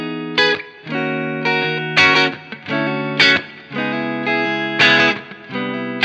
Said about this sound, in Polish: Spróbujmy podejść odwrotnie do tematu, czyli rozkręcamy tony na gitarze i skręcamy presence na wzmacniaczu, więc teraz jest zero.